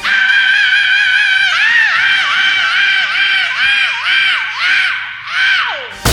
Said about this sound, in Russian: Итак, сегодня в нашей подборке 27-е место, пробирающий до мурашек металлический вопль